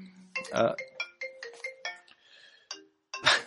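A phone ringtone plays a quick melodic run of bright electronic tones, a series of short notes in a rising and falling pattern, clear, with no one talking over it.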